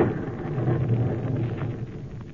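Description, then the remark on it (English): A heavy, sustained rumble of thunder from a lightning strike quite near, probably on one of the copper beech trees, rolls on steadily for a couple of seconds, deep and loud, with no voices over it. “Good heavens, that lightning must have hit quite near here.”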